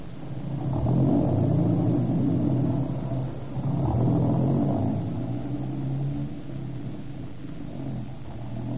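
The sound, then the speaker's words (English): A car engine rumbles, revving in two swelling surges before settling into a steady drone as the vehicle drives along, with no voices. “We got a car and an arsenal.”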